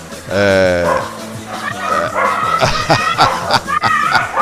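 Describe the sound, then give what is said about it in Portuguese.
Several dogs bark loudly and continuously, their sharp overlapping barks and high yips tumbling over one another in a busy, irregular chorus that never pauses for the whole stretch. “Rapaz, viu uma quantidade de cachorro latindo agora aí, velho, porra.”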